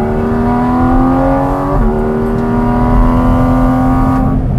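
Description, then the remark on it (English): A sports car, an established chassis fitted with a very special, more powerful engine, revs hard, its pitch climbing steadily under acceleration, dipping briefly at a gear change, then rising again in a loud, continuous howl with no talking. “that was an established chassis, and then they put a very special engine in it.”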